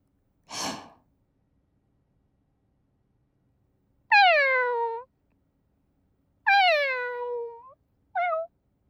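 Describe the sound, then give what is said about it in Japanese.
A soft breathy sigh, then three high, falling kitten-like meows from a human voice, two long and one short, clear against silence. “君に一番懐いてる子猫の頭、なでなでして。にゃーん。”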